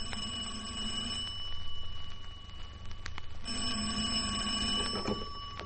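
A telephone rings in a suite at El Presidente in two bright, insistent bursts separated by a short pause, loud, over a low steady hum with no one speaking.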